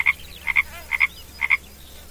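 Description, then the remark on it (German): A frog at a lake croaks in a steady rhythm, four paired bursts of clear calls with short pauses between, over a faint low background hum and no talking. “Genau. Ein Frosch.”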